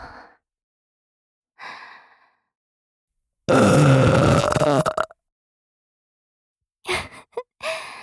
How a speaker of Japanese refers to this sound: ゲップされるたび腰ガクガクしてんじゃん。